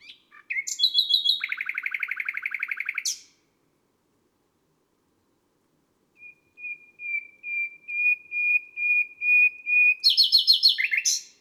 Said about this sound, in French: Le chant du rossignol est puissant et inventif.